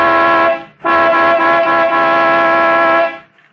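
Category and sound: vehicle, truck horn honking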